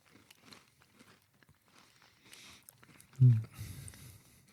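A bite into something crunchy containing crackling popping candy, followed by a fizzy, crackling texture of tiny pops while chewing, fairly loud for a moment, with soft mouth noises before it.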